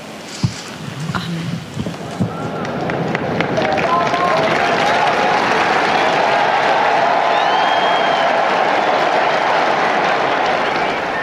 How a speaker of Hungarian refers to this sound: Ebből a nagy tapsból és üdv rivaldából gondolom rájönnek a kedves hallgatók, hogy sokan vannak jelen a Szent Péter téren, és hát így fejezik ki hálájukat Ferenc pápa tanításának, áldásának.